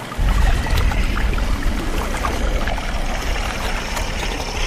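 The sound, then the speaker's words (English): A boat engine drones steadily, its low rumble constant throughout, mixed with a rushing, splashing wash of water. No voices are heard. “I turn off the engine so I can listen.”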